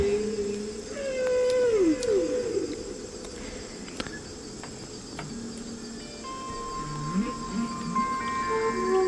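Long, sweeping whale calls glide and moan through a hissing backdrop, joined by thin, sustained flute tones that clash against each other, the whole mix steady and moderately loud without any talking.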